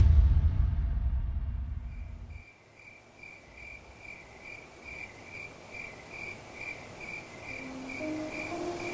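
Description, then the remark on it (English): Crickets chirp in a steady, rhythmic pulsing chorus, repeating evenly without pause. A deep low rumble fades out in the first couple of seconds, leaving the insects alone over a soft background hiss. “Choirs of crickets filled the sky like a cascading cacophony.”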